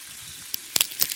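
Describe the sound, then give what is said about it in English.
Bacon sizzles in a frying pan: a steady, hissing crackle with a few sharp pops near the end, moderately quiet, with no voices. “I didn't hear a thing over this. Oh, so sizzling bacon.”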